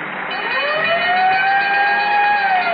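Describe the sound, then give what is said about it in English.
A loud fire siren winds up into a steady wail, with a bell ringing along with it throughout. No voices, just the continuous blaring tone. “Until then, whenever you hear the siren and bell, remember fire, cheese, gasoline.”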